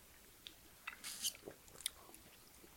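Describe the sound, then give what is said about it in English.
A few soft slurping sips of a frothy liquor cocktail, short wet mouth noises scattered over a few seconds in otherwise quiet surroundings, with no one talking. “All right, sips. Sips.”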